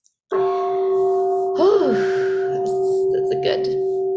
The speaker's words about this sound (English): Mindfulness bell.